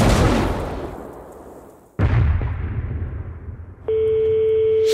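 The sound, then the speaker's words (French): Two loud, booming blasts from a ship's cannons, fired as a farewell salute, roughly two seconds apart, each with a long rumbling decay, followed by a sustained steady electronic tone. No one speaks. “Le moment est venu de leur adresser notre message d'adieu. À Torp, à tes canons.”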